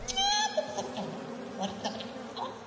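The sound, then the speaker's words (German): A singer vocally imitates a bee searching for where to land and where the nectar is, improvising for a dance piece: a short, bright buzzing hum up front, then trailing off into scattered, softer buzzy bursts and breathy sounds, moderately loud. “Da gibt es eine Biene, die am Rumsuchen ist und weiß nicht genau, wo sie landen soll, wo der Nektar herkommt.”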